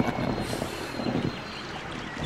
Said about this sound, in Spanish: Ay, qué mal. Viene otra tormenta.